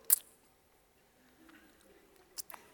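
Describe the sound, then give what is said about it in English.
A voice imitates a child licking or tasting a marshmallow, with a quick wet mouth click, a soft lull of smacking, then two more short clicks close together near the end. Fairly quiet, with no speech. “just to kind of taste the marshmallow.”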